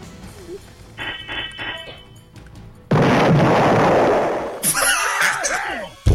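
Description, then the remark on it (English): A loud explosion sound effect bursts in suddenly after some electronic beeping, its broad roar sustained for over a second before giving way to swirling, warbling synthetic tones. “I'm going to be very disappointed if there is no explosion at the end.”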